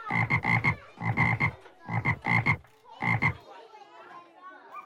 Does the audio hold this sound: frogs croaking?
yes